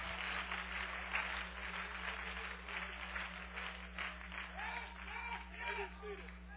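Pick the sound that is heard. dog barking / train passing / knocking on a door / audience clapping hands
audience clapping hands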